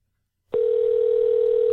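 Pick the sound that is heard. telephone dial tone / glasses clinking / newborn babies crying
telephone dial tone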